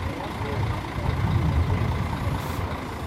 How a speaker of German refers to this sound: Regelmäßig fahren seitdem nur die Busse der Verkehrsbetriebe zum Terminal. Manchmal sitzen einige Bauarbeiter drin.